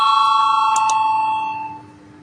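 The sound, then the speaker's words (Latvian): A single electric parliamentary bell rings steadily with a bright, sustained metallic tone, called before a vote on deputy Gobzems' 17th proposal, briefly clicking partway through, then fades out. No one speaks over it. “Lūdzu zvanu, balsosim par 17.”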